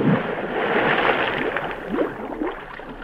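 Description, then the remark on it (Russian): A scuba diver wearing an aqualung plunges into the water, followed by steady churning, splashing and bubbling, fairly loud for about three seconds, as a trail of air bubbles marks the diver's path, with no voices. “Пошел под воду. Он, видите, след пузырями воздуха обозначился.”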